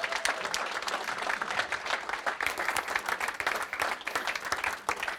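An audience applauds steadily, many hands clapping in a dense, crackling wash that holds an even level for several seconds without any talk over it.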